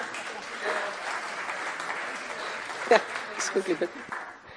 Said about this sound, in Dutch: Applaus.